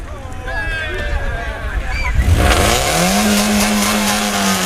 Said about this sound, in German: Ihr steht auf dem Hamburger Fischmarkt und gleich geht eure große Reise rund um die Ostsee los. Es hupt im Hintergrund.